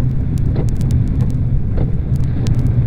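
A police car pulls into a service station, its engine a steady low rumble that fills the whole moment, with a few faint clicks and ticks scattered over the top and no one talking.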